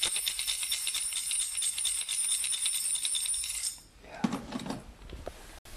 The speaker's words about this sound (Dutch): En de munten zijn nu vervangen door platgedrukte bierdoppen. Hè? Eigenlijk. En, ze klinken als belletjes.